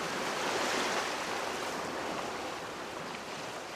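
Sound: sea waves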